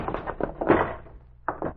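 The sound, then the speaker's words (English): A door is kicked open with a heavy thud and a short crashing rattle, surrounded by a few quicker knocking impacts and a couple of softer bumps at the end. “When I kick the door open, stand to one side and flash on the light.”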